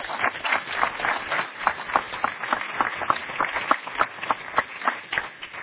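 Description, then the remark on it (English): An audience applauds, a dense, steady patter of many hands clapping at once that holds at an even, moderate loudness for several seconds without voices. “You can applaud.”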